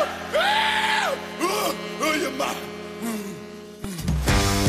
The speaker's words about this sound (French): Là, on l'entendait rire et on va l'entendre crier, si vous le voulez bien.